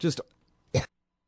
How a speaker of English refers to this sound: Hang on, more coughing.